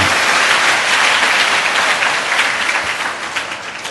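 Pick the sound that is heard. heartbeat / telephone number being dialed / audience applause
audience applause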